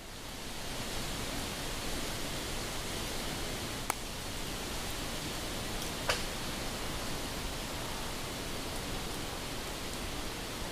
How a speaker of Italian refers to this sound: Con il sospiro del leggero vento le chiome frusciano e qualche tronco scricchiola per l'ondeggiare dei rami.